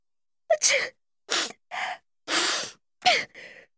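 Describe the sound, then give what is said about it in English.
Several loud sneezes from a cold, each led by a quick, sharp intake of breath, with short silent gaps between the bursts and no talking. “A cold.”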